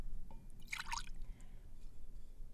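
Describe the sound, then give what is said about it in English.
A ladle pours hot wassail into a cup: one short, bright splashing pour with a few trickling drips, followed by quiet low background rumble and no talking. “Well, my wassail is piping hot, and I've got a little ladle right here. I'm going to scoop up a little cup of cheer.”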